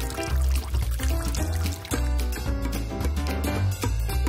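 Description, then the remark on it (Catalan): Water pours steadily into a sink basin, filling it before cleaning a partial denture, a continuous splashing rush with gurgling resonant tones underneath; the flow keeps going without a break and no one speaks. “Abans de netejar-la, ompli el lavabo d'aigua per si li cau la pròtesi.”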